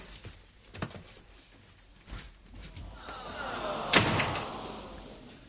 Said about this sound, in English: Another door slammed shut.